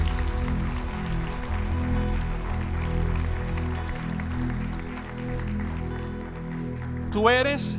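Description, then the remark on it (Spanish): A crowd claps steadily in a dense wash of applause, layered over sustained low musical tones, with a voice rising in pitch near the end. “Levanta, levanta ese aplauso fuerte.”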